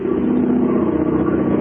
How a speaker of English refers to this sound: We bring you now the sound of an aeroplane.